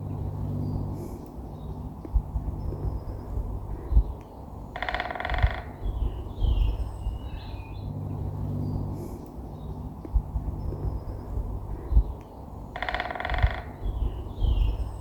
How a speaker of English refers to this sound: Lovely, great spotted woodpecker and very, well, a good sound to hear at the moment. That's their sort of courtship. That is their song, which is amazing.